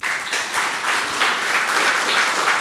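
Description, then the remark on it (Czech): An audience applauds steadily for Marie Redková after she speaks about Czech Radio (Český rozhlas), a dense wash of many hands clapping at an even, fairly loud level with no voices over it. “Váš potlesk patří Marie Redkové.”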